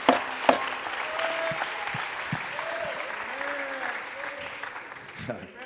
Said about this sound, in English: Oh, let's clap our hands and vamos worship aplaudir nuestras manos y alabarlo a él.